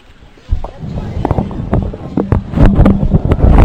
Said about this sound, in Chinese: 哦，不是因为那个电风扇会收音收进去。 冷气 呀，没关系，应该还好。